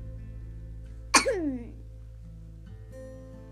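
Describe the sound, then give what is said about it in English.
One short, forced-sounding fake cough bursts out, a sharp hack trailing off into a brief throaty tail, against an otherwise quiet background with a low steady hum. “Why do I keep fake coughing?”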